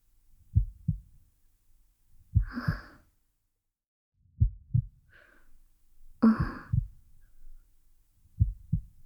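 heartbeat

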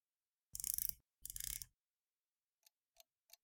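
clock ticking

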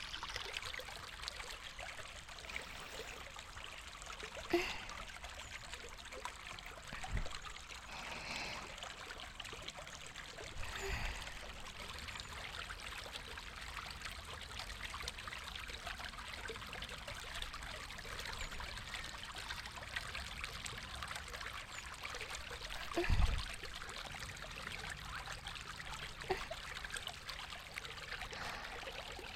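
flowing river stream water

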